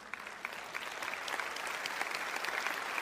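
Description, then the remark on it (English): An audience claps steadily for about three seconds, a dense patter of many hands at moderate loudness, with no voices over it. “you can clap for that.”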